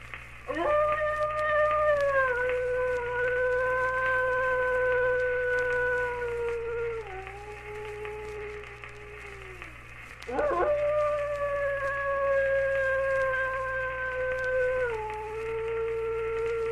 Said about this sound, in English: A record of a howling wolf. I wish I had a record like that.